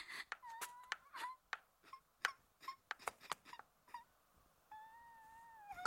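Soft, wavering whimpers of someone crying, drawn-out tremulous sobs interrupted by sharp clicks and small sniffling catches, fairly quiet, with no talking.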